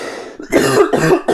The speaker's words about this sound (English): Oh, I'm going to cough.